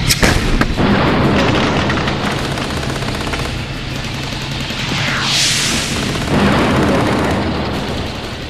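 A dense barrage of artillery and mortar explosions as Iraqi Baathist forces shell a front-line area, with continuous booming and crackling blasts, loud throughout, with a rising whistle of an incoming shell midway and no voices.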